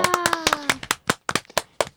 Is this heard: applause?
yes